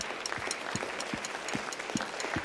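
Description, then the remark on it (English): An audience applauds a member who is a national rifle champion, with a steady, dense wash of clapping, with a few sharper individual claps popping out at irregular intervals. No one speaks over it. “You have a national champion in your midst, congregation. That's pretty cool. Yeah, you can clap for that.”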